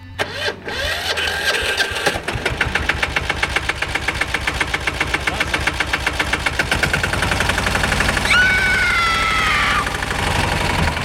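A motor cultivator engine sputters to life and settles into a loud, steady chugging, its rapid regular pulses continuing throughout with a brief rising whine near the end.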